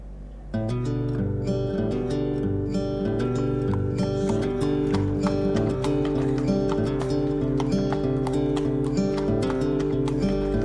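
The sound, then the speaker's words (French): Steady horse hooves clip-clop in a regular rhythm as a horse is ridden through a neighbourhood on a fine day, over a sustained droning, musical tone that runs through the whole recording. “Déjà, être sur un cheval, ça dégage les choses tout de suite.”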